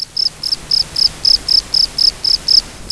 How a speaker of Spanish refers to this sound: En el caso de los grillos, frotan pequeños raspadores de un ala con el extremo anterior de la otra ala, manteniendo ambas ligeramente elevadas. El continuo roce entre las alas dará lugar a su canto característico.